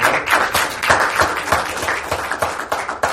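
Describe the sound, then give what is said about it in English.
A church audience bursts into sustained applause for a couple's 25th wedding anniversary, many hands clapping in a dense, steady patter with rhythmic pulses, loud and continuous with no voices over it. “Let's just give the Lord an applause for that.”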